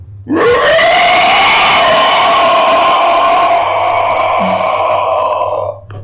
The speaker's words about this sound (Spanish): O pueden observar, cuando están volteando hacia el río, notan una sombra enorme. Parece, digo, más grande que el tamaño de una orca. O sea, abarca casi todo el río. Ven cómo sale, se planta sobre la orilla, voltea a verlos y hace un rugido.